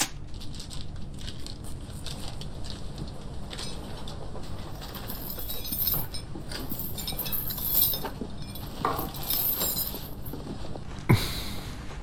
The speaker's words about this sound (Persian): اون دیگه چه جور پرینتریه؟ این یکی از مدل های HP.